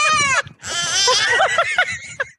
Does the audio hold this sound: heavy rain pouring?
no